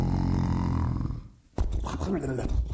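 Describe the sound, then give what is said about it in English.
A voice imitates a long, rumbling snore, then after a brief pause breaks into sputtering, snickering snorts, fairly loud with no other sounds around it. “Snively stood there, listening to him snicker and snore, waiting patiently for him to wake up”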